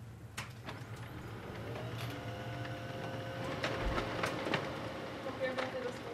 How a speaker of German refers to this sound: hebt gerade einfach den Drucker mal vorne an, damit es druckt. Ja, schief funktioniert es, ja.